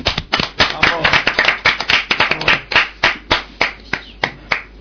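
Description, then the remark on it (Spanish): Applause from a small group on a radio show, dedicated to radio presenter Esther Galeano, loud, with dense overlapping claps at first that thin out into sparser, separate claps toward the end. “Y nos gustaría pues que algún día se pasara por aquí y bueno, pues si nos está escuchando, vamos a dar a todos un aplauso.”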